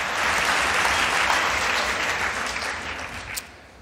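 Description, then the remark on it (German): An audience claps steadily, a dense wash of many hands applauding at fairly loud volume, then thinning out and fading toward the end. No voices are heard. “Kann man da zwischendurch einfach mal so klatschen.”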